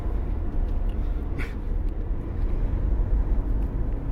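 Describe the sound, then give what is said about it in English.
A steady, heavy low rumble of a car driving while trying to catch up with riders on bikes, heard from inside the cabin, with a continuous engine and road drone and no voices. “If you're wondering why it sounds so difficult to catch up with the riders when we're in a car and they're on bikes, it's because the tracking systems that we use only update every few minutes,”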